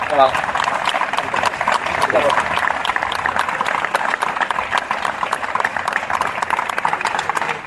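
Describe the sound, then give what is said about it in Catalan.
A steady wash of crowd applause for the longtime caretakers of the town's giants (gegants), many hands clapping at once in a dense, crackling texture that holds at an even level for several seconds without pause. “durant 30 anys han sigut els responsables de cuidar els nostres gegants, a Isabel i Gregori, i que també per a ells demanaria un fort aplaudiment perquè han estat molts anys de dedicació.”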